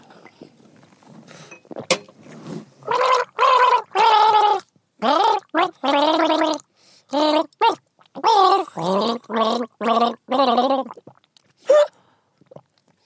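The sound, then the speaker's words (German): A person gargles water in a string of bubbly, voiced bursts with a wavering pitch, about a dozen short loud gurgles broken by brief pauses, ending with a faint gasp. “Gurgel, Wurgel.”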